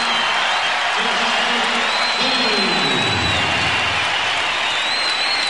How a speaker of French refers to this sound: Et Michael Jordan donc sort 2 minutes avant la fin du match, comme si de rien n'était, comme si c'était un match normal. Sauf qu'à ce moment-là, toute la salle se lève d'un seul homme, l'applaudit.